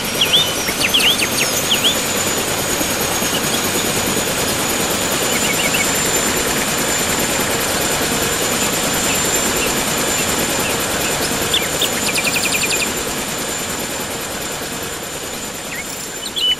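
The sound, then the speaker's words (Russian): A helicopter's loud, steady rotor and engine roar fills the scene, then drops somewhat in level near the end as it lands at the edge of a forest in the taiga. A few faint chirps sound at the start. “Таежную тишину взорвал вертолет. Когда он опустился на лесной опушке, двое крепких мужчин выволокли из кабины связанного по рукам и ногам парня лет 20.”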